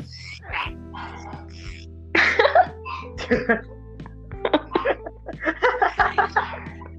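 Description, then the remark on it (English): A person imitates a chihuahua with a run of short, raspy yips and yaps, fairly loud and uneven in rhythm, breaking into choppy, throaty bursts that verge on coughing or laughter. “make a chihuahua noise.”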